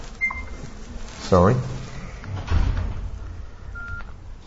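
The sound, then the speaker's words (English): A mobile phone gives a few short electronic beeps, one near the start and another toward the end, fairly quiet against a muffled background with some indistinct voice and handling noise. “I always tell everybody else to switch off their phones.”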